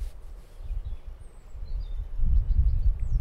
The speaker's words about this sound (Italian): C'è il vento, senti, eccolo, sta arrivando. Mi piace molto sentirlo che arriva da lontano, no? È come un'onda nel surf, quando arriva e passa tutti gli alberi. Poi puoi sentire anche diversi tipi di alberi, perché questi sono senza foglie.